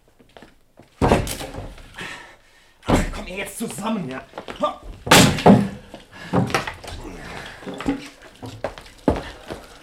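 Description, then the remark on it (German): Several heavy, booming thuds strike against a door at irregular intervals, loud, as someone kicks the door in to force it open, while voices speak in between the blows. “So kriegst du die Tür nie auf. Geh weg, ich trete sie ein.”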